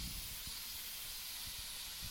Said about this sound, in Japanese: セミの音に混じってガーというグラインダーで何か鉄を削っている音がします。火花がこちらから見えております。